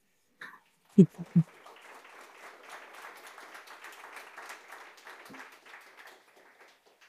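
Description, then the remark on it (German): An audience in a room breaks into applause after a text is read aloud, a dense, steady crackle of many hands clapping for about six seconds before tapering off, with a couple of brief loud vocal bursts at the start. “Jetzt in so einem Raum gibt es dann mal Applaus.”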